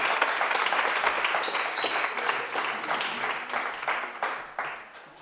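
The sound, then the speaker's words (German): An audience applauds steadily to welcome two male performers, a dense wash of many hands clapping that stays loud and fairly even, easing off slightly toward the end, with a brief high whistle-like tone partway through. “Begrüßt sie mit großem Applaus.”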